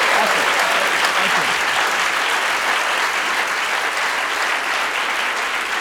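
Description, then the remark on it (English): A crowd applauds steadily, a dense, loud wash of many hands clapping that holds at an even level for several seconds, with no voices standing out. “Let's hear a big round of applause for this brilliant, brilliant gentleman.”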